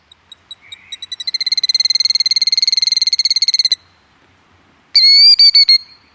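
A shrill bird call starts as sparse high notes, speeds into a long rapid trill, stops, then returns after a brief pause as a loud, strident burst of calls. It sounds like a killdeer, with no talking.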